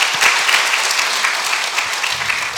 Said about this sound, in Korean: 우리 저 2층에 우리 수련회 다녀온 중고등부 학생들하고 청년들이 앉아 있습니다. 우리 참 잘 오셨다고 환영한다고 우리 힘차게 한번 박수 치시겠습니다.